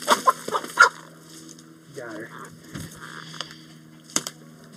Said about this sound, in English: And the rest of us begin with the second bird, a bird called a Brahma, with elaborately patterned brown and white feathers.